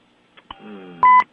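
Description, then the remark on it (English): A short, loud electronic beep on a phone line, signalling a caller joining, preceded by a couple of faint clicks and a low buzzing tone, with no one speaking. “Is there a call around? I heard a beep.”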